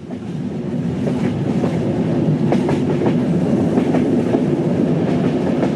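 A train rolls steadily along the tracks in a program's opening jingle, its wheels clattering in a repeating clickety-clack rhythm over a continuous low rumble, fairly loud, with no voices.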